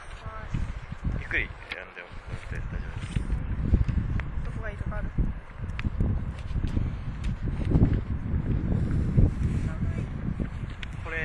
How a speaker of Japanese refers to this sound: この時風が吹いてて本当に寒かったです。